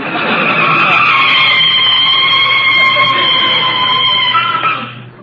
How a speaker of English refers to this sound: We're only a block from home now, Rochester. You can start putting on the brakes.